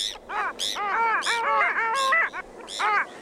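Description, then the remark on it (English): A chorus of nasal, yodeling long-tailed duck calls mixed with squeaky Bonaparte's gull cries, overlapping in quick bursts and loud, with no voices; the birds are overwintering from the Arctic on the Niagara River, just downstream from the falls at the Stella Niagara Preserve. “Just downstream from the falls at the Stella Niagara Preserve is my favorite spot to be serenaded by long-tailed ducks and squeaking Bonaparte's gulls overwintering from the Arctic.”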